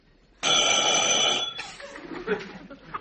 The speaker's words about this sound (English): Oh, the doorbell rang, but there's nobody here. Yeah, I guess because there's somebody ringing.